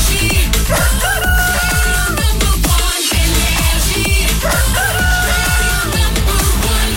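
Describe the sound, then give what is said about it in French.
A rooster crows twice over loud, driving music with a pulsing bass beat in a busy radio jingle on the Énergie morning show at 9 a.m.; the jingle briefly cuts out midway. “Qu'on amène le coq.”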